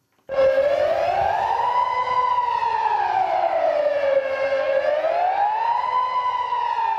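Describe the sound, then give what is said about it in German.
A civil defense general alarm siren, sounded by mistake one afternoon just before 3 p.m. in the areas below the Marmorera reservoir, wails steadily, its loud harmonic tone slowly rising and falling in pitch in long sweeps, with no voices over it. “Zu hören war der allgemeine Alarm.”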